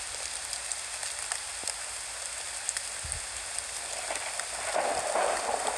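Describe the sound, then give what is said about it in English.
Steady rain hisses without pause, with scattered drops ticking on a surface, a brief low thump midway, and the downpour swelling slightly louder near the end. No one speaks. “Well, it's raining.”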